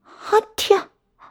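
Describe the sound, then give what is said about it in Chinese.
A single voiced sneeze from a person who is cold, fairly loud: a short breathy 'ah' build-up, then a sharp burst, with a faint murmur after. It sounds like a person playfully imitating a sneeze. “啊嚏，冻得我直打喷嚏。”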